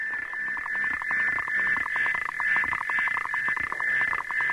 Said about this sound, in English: Then the female starts to rap, and it's, you know, almost pornographic, right? He gets incredibly excited and keeps on rapping. So there are two frogs singing in that. That's a duet between a male and a female who's desperately trying to find him.